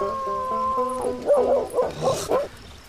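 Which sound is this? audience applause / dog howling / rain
dog howling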